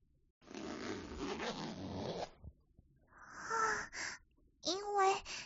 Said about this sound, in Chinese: 因为今天要来见你，所以特地穿了胸口是拉链的衣服，只要拉开就可以露出来了。